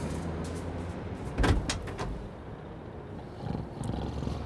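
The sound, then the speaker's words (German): The door of a delivery van opens with a sharp latch clack followed by a few quick rattling clicks over a low steady rumble, then quieter shuffling movement. “schaute sich nervös um und öffnete dann die Tür seines Lieferwagens.”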